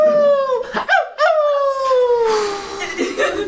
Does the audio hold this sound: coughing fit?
no